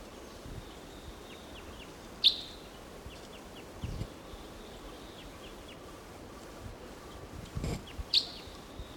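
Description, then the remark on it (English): A wild crossbill gives sharp, bright call notes twice, several seconds apart, at about 10 o'clock, over a soft outdoor background with faint bird twitters and low rustling. The calls are clear. “There's a wild crossbill here, a different one, or maybe the same one much later.”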